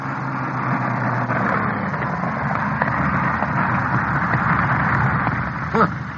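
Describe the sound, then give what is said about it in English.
A piston-engine aircraft drones steadily as it comes in to land, its engine a continuous rumbling hum holding at a fairly constant level throughout, with no voices present. “Hold it. Piston engines. There it is.”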